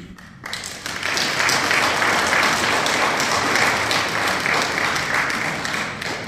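A crowd breaks into sustained applause after a brief quiet moment, many hands clapping in a dense, steady wash that stays loud for several seconds.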